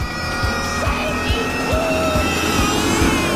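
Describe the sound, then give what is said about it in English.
A loud, steady engine roar with a rising whine as a sedan accelerates with a jet-like boost, flames jetting from its back. Rhythmic low thumps pulse underneath, and there is no talking. “The car speeds up, leaving Pierce's convertible behind.”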